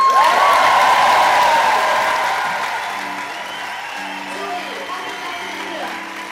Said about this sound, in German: Die Künstlerpersönlichkeit des Jahres 2013 weiß noch nichts von ihrem Glück. Und ich möchte euch bitten, ihr jetzt einen tosenden Applaus zu geben, ist ….